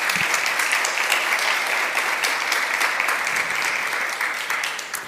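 Steady applause from an audience welcoming social scientist Dr. Jihan Sinanoglu, a dense wash of many hands clapping that holds at an even, fairly loud level for several seconds before tapering slightly at the end.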